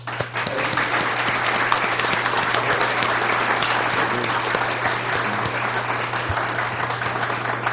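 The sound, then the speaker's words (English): Sustained applause from an audience, a dense, steady clatter of many hands clapping at an even loudness throughout, with a low electrical hum underneath, applauding people for their willingness to serve. “I think we should, and I think I speak on behalf of everyone here, thank you for your willingness to serve, and we applaud you for that.”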